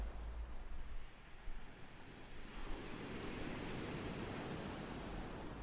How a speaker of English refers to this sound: The waves you can hear were recorded at Deal on the beach on July the 15th, 2021.